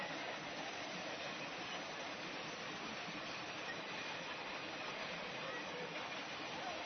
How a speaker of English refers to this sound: They may just wait out the train until it gets far enough away.